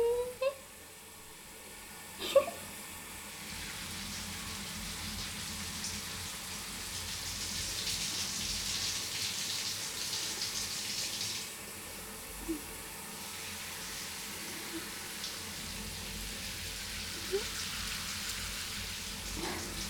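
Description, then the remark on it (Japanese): Steady running water from a shower fills the scene while something fluffy is scrubbed and washed, with a soft hiss throughout and occasional small knocks and splashes. “シゴシされるの気持ちいいの？はぁ、はいはい、入念にやってあげるからね。”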